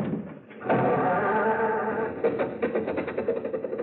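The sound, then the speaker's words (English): An old car engine cranks with a loud, wheezing groan, then coughs and sputters into an uneven, rhythmic chugging as it struggles to start, the car finally getting going after failing to start. “Now, look, stop with the jokes and start the car, will you?”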